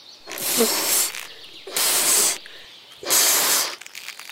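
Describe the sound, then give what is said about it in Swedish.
Someone blows into a balloon in three long, forceful breaths, each a loud, airy rush, separated by short pauses. No one speaks. “Oj, vad du blåser i ljudmonstret. Ska du inte skicka iväg ballongen snart?”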